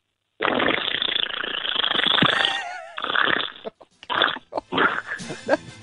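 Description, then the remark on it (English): A voice imitates a long, wet, sputtering fart as an entry in a fart competition, a sustained buzzing blast for about two seconds followed by several shorter, choppy splutters with a gurgling texture. “That's a wet fart.”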